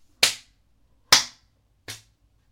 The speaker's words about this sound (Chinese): 自己扇自己的耳光，用力的扇，一边扇一边说自己是母狗，不应该骚叫，应该狗叫。来，扇扇自己，跪着扇。